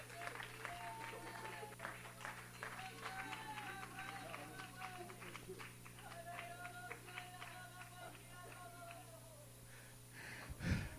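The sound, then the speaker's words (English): An audience claps their hands to the Lord steadily and densely for several seconds, a sustained patter of many hands, with voices calling out and a low steady hum running underneath. “One more time, clap your hands to the Lord right now.”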